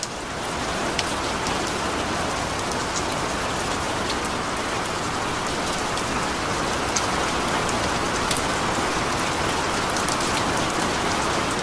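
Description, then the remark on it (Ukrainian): Steady rain pours down evenly onto hard surfaces over a city at night, a dense continuous hiss with scattered sharper drop ticks, fairly loud, with no voices or other sounds throughout. “Дощ навис над містом мерехтливою срібною завісою.”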